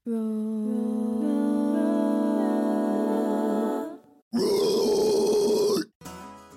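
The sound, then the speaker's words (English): A death metal vocalist gives a deep, sustained guttural roar held for about four seconds, then a harsher, rasping growl after a brief pause, and a short final burst. No music accompanies it. “That roar was ….”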